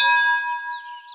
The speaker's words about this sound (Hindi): Bell bell bell यानी घंटी।